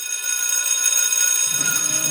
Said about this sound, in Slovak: Ach, tento zvuk. Horší je už len budík. Školské zvonenie. Ako nám nechýba.